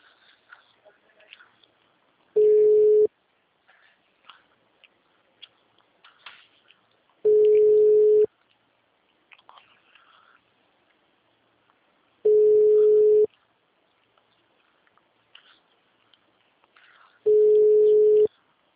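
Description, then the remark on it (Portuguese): A telephone busy signal on a call to an 800 number: four loud, steady mid-pitched tone bursts, each under a second long, repeating at even intervals with faint background sounds between them and no talking. “O número 800. está ocupado.”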